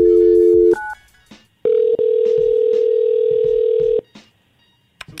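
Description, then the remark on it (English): A loud telephone dial tone hums briefly, a quick touch-tone dialing beep follows, then a long steady tone drones for over two seconds before cutting off as a phone call to a show guest is placed. No one speaks. “Get Alana on the phone, Jonathan, and let's see what she has to say.”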